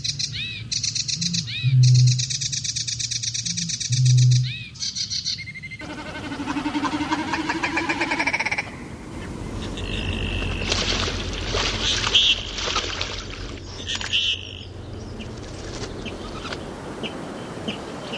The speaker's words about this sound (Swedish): Och så en fågel som var alldeles särskilt efterlängtad. Det låter ju verkligen som en kärsångare här nu som sjunger.